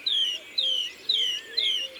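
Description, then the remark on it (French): A songbird mimics starling calls: four loud, downward-slurred whistles repeat at a steady pace, roughly two per second, with no voices present. “Là, elle imite les tourneaux.”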